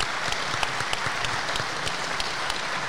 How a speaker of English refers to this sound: Everyone, give Andrew a lovely round of applause.